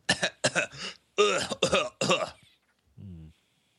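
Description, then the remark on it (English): A person fakes a run of about six harsh, exaggerated coughs in quick clusters, loud, ending with a short low groan, imitating a badly ill character from a 2017 film. “The best coughing of 2017.”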